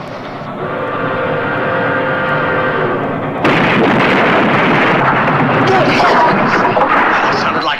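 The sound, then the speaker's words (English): A circus train's horn sounds for a few seconds, then a sudden, loud, roaring crash of a train collision bursts in and keeps rumbling and clattering to the end. “Great Scott, that was the circus train and the lions are loose.”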